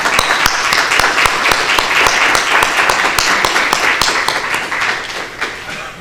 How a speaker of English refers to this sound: I would like all of them, all of yours, a big clap for him from my side.